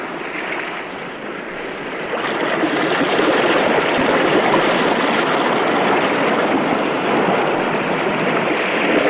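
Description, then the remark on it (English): A steady, broad roar of sea surf rumbles continuously in the distance, swelling slightly louder after the first couple of seconds and holding without pause, with no voices. “Far away you can hear the rumble of the sea.”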